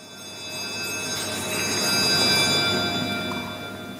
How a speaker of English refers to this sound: The Commons bell rang just after 2:30 in the afternoon to usher a moment of silence in honour of Sir David Amos.